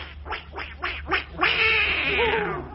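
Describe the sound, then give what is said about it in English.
A wind-up toy duck, just wound up, quacks: four quick, raspy quacks in a steady rhythm, then one longer, drawn-out honk, with no talking. “I was just winding up one of the ducks.”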